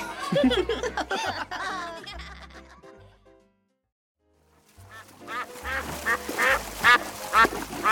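Ducks in a school swimming pool quack in lively, overlapping bursts, fairly loud, fading out into a brief silence before a second round of noisy quacking picks up again.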